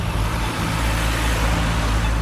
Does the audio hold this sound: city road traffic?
yes